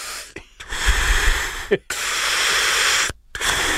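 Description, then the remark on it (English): A voice imitates heavy, hissing mask-style breathing: a few long, raspy, loud breaths in and out, separated by brief silent pauses. “It was labored breathing. Mine was just straight Darth Vader, though.”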